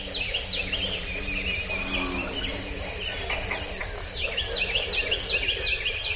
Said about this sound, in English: Let's listen again to America's Ark, as bullfrogs sing alongside northern cardinals and prothonotary warblers.